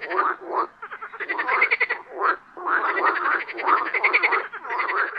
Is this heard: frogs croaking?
yes